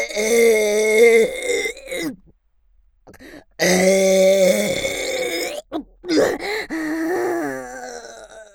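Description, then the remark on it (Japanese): Three long, loud, voiced burps, each drawn out for a second or two with a rough, groaning tone, separated by short pauses and no talking. “これくらいの増面ゲップなんて、朝飯前よ。”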